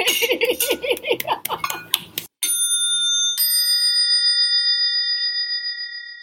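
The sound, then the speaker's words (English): Several voices shout goodbye together and laugh, then glasses clink twice, each strike a bright, high ring that lingers and slowly fades over several seconds. “I believe the perfect way to end this is to all shout goodbye and clink a glass.”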